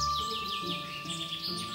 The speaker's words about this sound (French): Coucou, jolis oiseaux. Comment vas-tu ce matin?